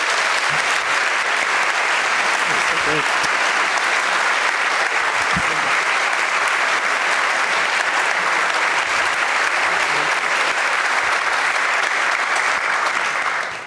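Sustained applause from a large audience, a dense, steady wash of clapping hands that fills the room at full volume for over ten seconds before tapering at the very end.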